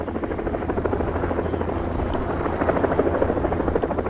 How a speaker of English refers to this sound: News helicopters circled Memorial Field at Winnicunnet High School, Maloney's alma mater, and thousands of police officers came to pay their respects.